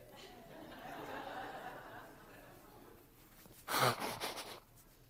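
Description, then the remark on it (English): A person blows their nose: one loud, breathy honk followed by a few shorter snuffling bursts, after several seconds of quiet background noise. “I'm sorry, guys, but I'm going to have to blow my nose.”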